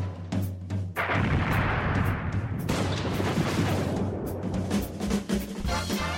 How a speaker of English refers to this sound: It's after midnight here in London. People are dancing on the rooftop and fireworks are exploding in all directions.